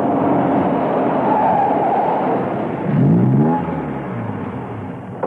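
A Rolls-Royce motor car rumbles along steadily into the yard of the British Cypher headquarters, gives a brief swelling rev partway through, then eases down and settles as it parks under a Strictly No Parking sign. No voices.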